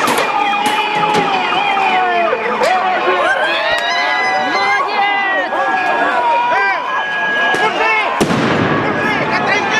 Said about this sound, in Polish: Wielotysięczny tłum starł się siłami reżimu Janukowycza. Ulica tonęła w dźwiękach wybuchów, wystrzałów. Przypomnę tą atmosferę tamtych dni.